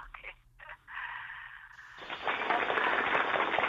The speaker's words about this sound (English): We're all clapping here in the studio.